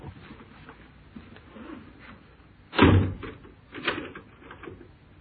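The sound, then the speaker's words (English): A door bangs shut with a sharp, heavy thud, followed by a few softer knocks and shuffling sounds as it settles. “Open the door.”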